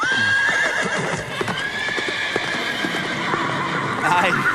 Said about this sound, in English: I sat up in bed. I'm like, are there horses in my bedroom? Like, what is there a stampede? What is happening? Sits me straight up because it is disruptive.